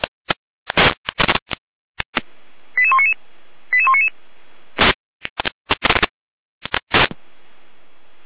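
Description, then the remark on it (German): Fire brigade radio alerting tones from Gera, Germany, on Leitstelle Jena radio traffic: two short sequences of quick, stepped electronic beeps at changing pitches, set among harsh bursts of radio static and clicks, with no voices. “Gera mit Alarmierung.”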